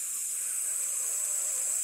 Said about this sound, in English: And I heard a strange, spooky sound. A sort of rattle. No, wait, a hiss. Yeah, a rattling hiss.